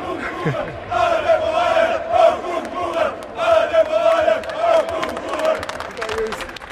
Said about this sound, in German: Ich habe schon gehört, wie die Fans jetzt schreien.